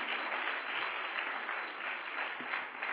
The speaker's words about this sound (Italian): Forte applauso al Signore. Di più, di più, di più.